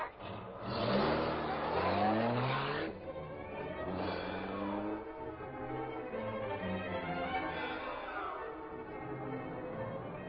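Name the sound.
car engine accelerating away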